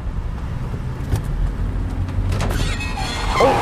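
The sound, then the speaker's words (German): A car's low engine rumble runs throughout, then near the end a short, harsh grinding scrape rises as a nearly new wheel rim drags along a curb, with a few sharp knocks just before it. “Ich glaube, das war die Felge.”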